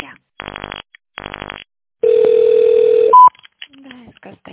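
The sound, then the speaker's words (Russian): Telephone line tones on a call to the Stolitsa construction company's line: two short buzzy bursts, then a long steady mid-pitched tone and a quick higher beep, followed by a faint voice starting to talk. “Наберите внутренний номер абонента или дождитесь ответа.”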